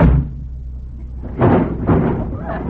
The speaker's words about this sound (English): Door just fell off.